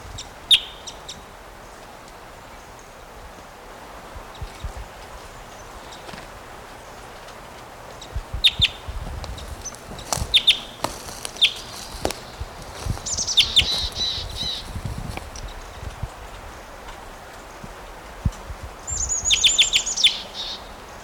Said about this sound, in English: He'll fly up and give flight calls, I'm sure. So there he goes.